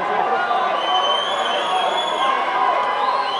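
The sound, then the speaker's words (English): A large crowd in the arrivals area of Caracas International Airport, Venezuela, cheers and shouts continuously as opposition leader Juan Guaido arrives, a dense roar of many voices with high whistles or shrieks rising over it, steady and loud throughout. “Now to Venezuela, where opposition leader Juan Guaido returned to cheering crowds today, despite the risk of arrest.”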